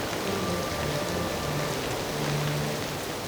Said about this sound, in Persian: باران ببار،